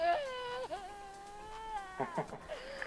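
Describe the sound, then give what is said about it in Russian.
A 14-year-old girl cries hysterically: one long, high, wavering wail, then a few broken, gasping sobs. No one else speaks. “Вот, ну и у нее теперь истерика, я не знаю, что в этой ситуации делать, ну, вы слышите, да?”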